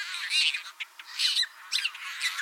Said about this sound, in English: Tricolored blackbirds look a lot like red-winged blackbirds, except tricolored males have dark red epaulettes and white bars on their wings, instead of scarlet epaulettes and yellow bars, and they sound quite different.